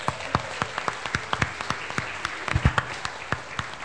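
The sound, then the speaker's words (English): A round of applause for the children at the end of a service, many hands clapping in a steady, brisk patter with sharp individual claps standing out, moderately loud and without any talking. “I think our kids deserve a little round of applause.”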